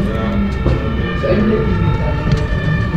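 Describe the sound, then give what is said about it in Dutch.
A fire engine siren blares loudly as another fire engine and an aerial platform truck arrive at a building after a fire alarm, its steady wailing tones held over a deep, rumbling engine noise for the whole few seconds. “Nog een brandweerwagen en een hoogwerker, ja hoor.”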